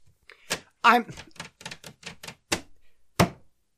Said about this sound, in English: I'm rattling my paper so it sounds like I've got something I'm planning to talk about, because we're all creatures of marketing, right?